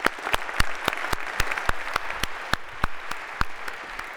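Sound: audience round of applause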